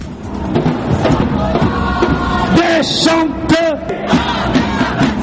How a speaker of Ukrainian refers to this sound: Молоді люди в масках кидають у поліцейських камінням. Ті випускають у відповідь сльозогінний газ. Вигуки, звуки розбитого шкла, сирени, арешти, яких за два дні офіційно нарахували вже 1100.